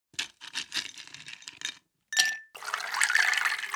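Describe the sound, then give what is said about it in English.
Clear clinks of ice or glass, a brief bright ring, then a steady stream of liquid pouring into a glass for the last second or so, with no one talking. “With that, pour a glass and let's dive in.”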